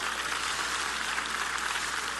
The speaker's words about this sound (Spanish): Le doy un aplauso. Le doy un aplauso a Jesús.